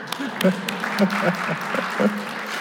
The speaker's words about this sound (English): Oh, that's my wife. Can we please clap for her?